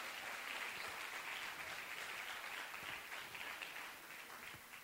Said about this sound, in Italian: Facciamo un applauso di benvenuto, dai, benvenuti, benvenuti.